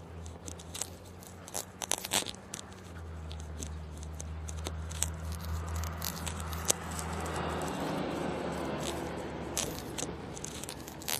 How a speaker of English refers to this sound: A school bus. An odd time for a school bus. Well, I don't know. It might be the right time for a school bus.